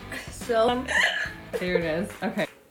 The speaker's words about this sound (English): Trying this. I mean, I have the hiccups right now.